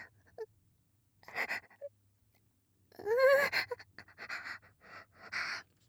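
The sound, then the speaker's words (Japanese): Breathy sniffing in short irregular bursts with pauses between, and one brief voiced exhale partway through, made with the nose pressed against bloomers, the breath falling on the thighs. No talking. “クンクンする鼻息が太ももにかかってくすぐったい。”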